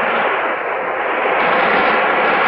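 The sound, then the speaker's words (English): A storm-at-sea sound effect made by waving a drum cut lengthwise and filled with pellets: a steady, dense rushing hiss like surf and wind, loud and unbroken for a few seconds, with no voices. “He picks up a drum cut lengthwise and filled with pellets and waves it. Storm at sea.”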